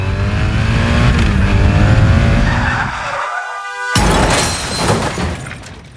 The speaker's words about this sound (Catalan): De camí a casa amb la moto. Faré zigazagues entre els cotxes. I tindré un accident. Moriré a l'acte.